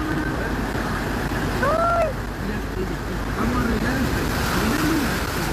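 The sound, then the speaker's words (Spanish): A pickup truck pushes through deep floodwater on a rain-flooded street at Javier Carrera and Pablo Neruda, throwing up a steady, loud rush of splashing water with a low rumble underneath, while a few brief voice exclamations rise over the noise. “Oye, pero mira la cantidad de agua. ¿Es una lancha o una camioneta?”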